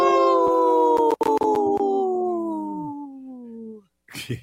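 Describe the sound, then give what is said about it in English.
A person imitates a wolf howl on the Native Roots Radio show: one long, loud, sustained voiced tone that glides slowly downward in pitch for nearly four seconds, followed by a short breathy sound. “Good howl there”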